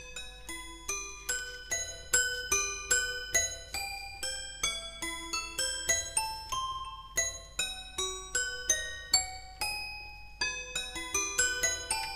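Bright, bell-like toy piano notes play a steady melody, each plinked tone ringing briefly with a metallic shimmer, sometimes in small clusters, clear with no voices.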